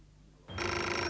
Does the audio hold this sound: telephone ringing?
yes